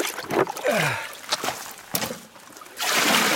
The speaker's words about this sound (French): Donc voilà, je vais préparer le matériel et la première chose à faire, c'est de remplir le grand récipient qui va servir à faire la flottation. Avec toute la rivière.